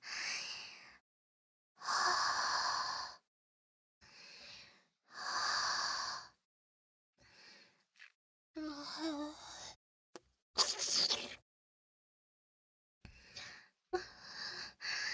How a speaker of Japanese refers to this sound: ほら、吐息だけじゃなくて、なめなめもしちゃいました。